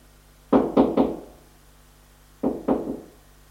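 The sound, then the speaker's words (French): Three firm knocks on a door in quick succession, then a pause and two more knocks, each a sharp, low thud with a short decay and no voices. “On a frappé à la porte.”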